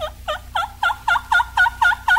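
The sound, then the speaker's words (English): A hen wild turkey, receptive to a gobbler, yelps an invitation in a steady series of about nine evenly spaced, raspy notes, clear, growing slightly louder as the run goes on, with no talking. “This hen is receptive to a gobbler. Listen to her invitation.”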